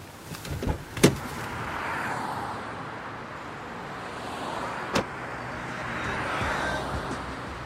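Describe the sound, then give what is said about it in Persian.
Someone gets into his own car after hurriedly connecting a radio to another car: a burst of rustling and clunks near the start, a sharp door thud partway through, then quiet cabin hum with faint movement. No voices. “با عجله رادیو رو وصل میکنه به ماشین توتونچی و میشینه توی ماشین خودش.”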